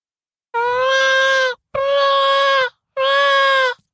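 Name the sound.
baby crying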